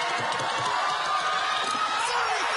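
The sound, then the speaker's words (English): A loud, dense roar of a show audience cheering and screaming as a contestant wins, sustained throughout with overlapping excited voices and shouts. “The crowd's going crazy.”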